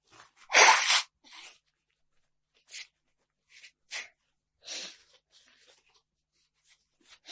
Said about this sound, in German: Verzeiht mir, ich muss mir kurz die Nase putzen. Man glaubt jetzt, es ist so heiß, also ich hatte einen kalten Zug erfasst.